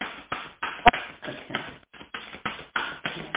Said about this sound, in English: Okay, this is a long shuffle, but it's their rodeo, it's not mine.